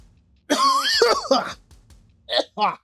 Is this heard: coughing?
yes